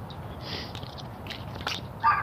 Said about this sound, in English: Dog. What the hell is that sound? Derp. Yep, dog.